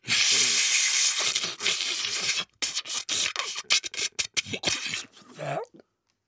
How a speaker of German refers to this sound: Ja, dann leg mal los jetzt mit deinem Staubsauger.